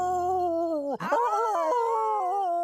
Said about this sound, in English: What are they howling about? I guess all of our fighting was making them sad.